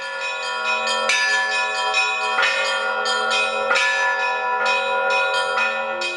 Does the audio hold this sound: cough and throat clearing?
no